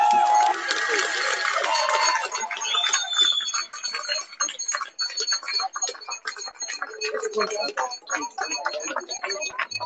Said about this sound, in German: Nochmal einen ganz fetten Applaus an ihn.